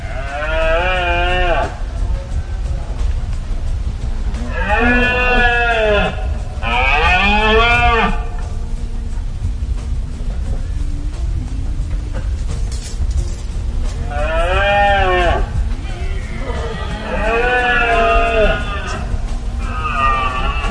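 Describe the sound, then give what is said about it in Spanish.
Red deer stags bellow during the rut, with about six loud, drawn-out, moaning roars. Their pitch rises and falls, separated by pauses over a steady low rumble. “Me refiero a la berrea de los venados, de los ciervos. Vamos a escucharlo.”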